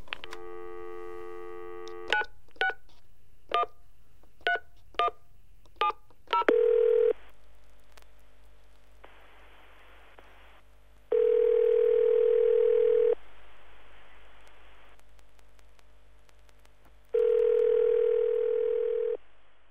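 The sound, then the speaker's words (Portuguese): A telephone dial tone gives way to a quick run of about seven touch-tone key beeps, followed by a steady ringing tone repeating in long, evenly spaced bursts, in a phone call to Father Christmas. No one speaks. “Vai daí, peguei no telefone e...”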